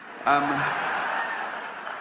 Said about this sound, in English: Round of applause there for...